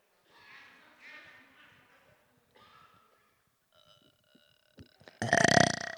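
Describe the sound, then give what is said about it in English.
Scattered munching and mouth noises from an audience acting out eating on cue build gradually, then a loud, drawn-out belch erupts near the end. “That side, that side, that side, getting loud, and then the belch at the end.”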